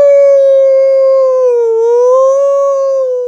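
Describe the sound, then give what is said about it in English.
A voice holds a long, loud wailing note that dips and rises slowly in pitch, imitating an ambulance siren, sustained for a few seconds with no other sounds. “Are you a train? I thought it was an ambulance.”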